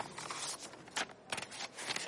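Crisp paper handling: an envelope tearing open, then a typewritten letter crackling as it's unfolded, in a few short rustling bursts over quiet room tone, with no one speaking.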